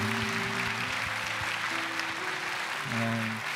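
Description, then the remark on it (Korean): A large church audience claps steadily in sustained applause, with low sustained musical tones humming underneath throughout, applauding in thanks to God and to senior pastor Lee Jae-hoon for 40 days of sermons. “그리고 또 지난 40일 동안 또 연말과 또 연초 굉장히 바쁜 가운데도 40일 동안 저희에게 귀한 말씀 들려주신 우리 이재훈 담임 목사님에게도 우리 감사의 박수를 이렇게 하겠습니다.”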